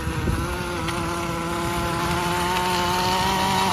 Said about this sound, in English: If it's the right kind of weed whacker, like the professional kind they use, that can work.